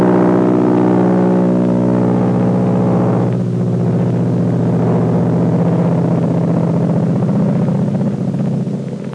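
A plane's engine roars at full throttle, a loud, steady, low droning growl whose tone shifts and rises a few seconds in, holding strong for about nine seconds before easing slightly at the end.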